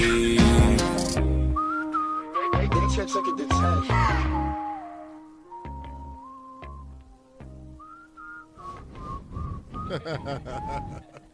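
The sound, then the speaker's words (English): A bright whistled melody glides and loops over a song's steady backing beat, the notes clear, carrying the tune through most of the passage. “Nah, I can't front that whistle when part is hard.”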